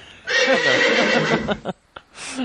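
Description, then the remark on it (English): A horse lets out one loud, quavering whinny lasting over a second, followed by a brief pause and a short snorting call at the end. “Why do they still have those horse cops, by the way?”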